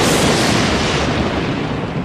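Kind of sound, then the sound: sound effect, lightning sound effect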